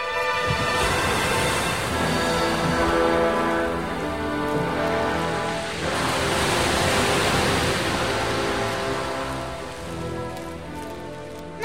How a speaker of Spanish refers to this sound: ¿Oyes eso? Parece el ruido del mar. Sí, sí. Parece el ruido del mar.